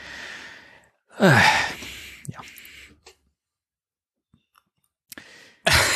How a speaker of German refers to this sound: Was war das denn gerade? Ich habe gegähnt. Ich bin froh, dass die Leute das nicht sehen müssen. Ich habe gegähnt. Bin froh, dass wir keinen Videopodcast machen.